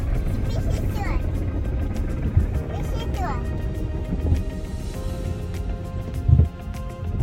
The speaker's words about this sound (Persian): این چجور داره خشک میکنه ماشین رو میبینید بچه ها؟